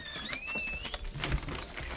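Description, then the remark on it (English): Steady crinkling and rustling of a plastic takeaway bag holding a delivered curry being handled, with scattered sharp crackles over two seconds and a faint high squeaky tone at the start. “Excuse the rustling bag now.”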